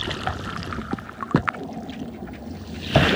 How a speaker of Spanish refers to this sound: Pero ya sube la marea. Ahora toca la inmersión.